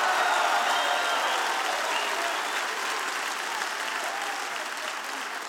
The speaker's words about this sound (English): Clap your hands and shout with the voice of triumph.